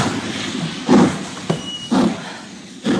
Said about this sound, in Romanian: Ce e asta? Ce e asta? A plecat trenul meu? Oprește!